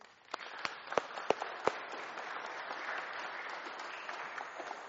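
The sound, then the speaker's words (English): An audience bursts into applause for a speaker, a dense wash of clapping with a few sharp, louder claps standing out near the start, sustained at moderate volume throughout. “Should we give him a round of applause?”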